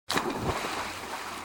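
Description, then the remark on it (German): A sudden loud splash as something jumps into the sea, followed by a brief wash of churning, bubbling water that settles quickly. “Als es am Wasser angekommen war, sprang es hinein.”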